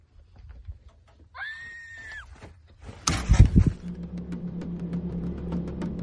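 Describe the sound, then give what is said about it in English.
A long, high, wavering scream, apparently from a girl, rings out from a distance on a road in Arizona in the dark. It is followed by a sudden burst of rumbling noise and a steady low engine-like hum continuing underneath. “This is when he hears a scream from what appears to be a girl.”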